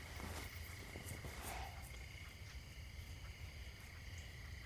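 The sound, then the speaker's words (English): A thin, steady mosquito buzz drones on without a break over a low background rumble. Nobody speaks. “A mosquito? Yeah. They woke me up about an hour ago.”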